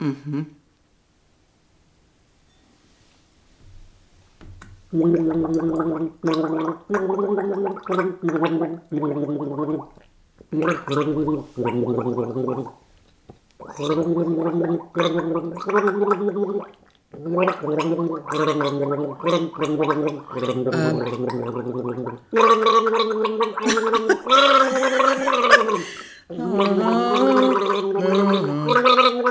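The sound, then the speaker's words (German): Someone gargles the Christmas carol "Stille Nacht, heilige Nacht" (Silent Night) with water, the tune rising and falling in bubbly, wavering phrases broken by short pauses, growing louder and more strained toward the end. “Ich bin überströmt mit Wasser mittlerweile.”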